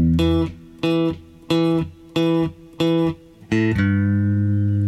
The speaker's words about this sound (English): That's the fifth string open with an upstroke, followed by the top string third fret with the second finger. We're going to hit it and bend it. So here's what we have so far.